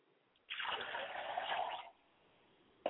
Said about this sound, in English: I pour water to ground, so that as it falls upon the fertile ground, it will take root and then spring up and grow.